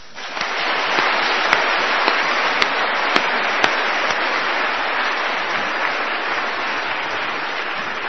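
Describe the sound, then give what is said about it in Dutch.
A crowd applauds steadily for about eight seconds, a dense wash of many hands clapping at a constant, fairly loud level, with a few sharper individual claps standing out. “laten we ze een daverend applaus geven.”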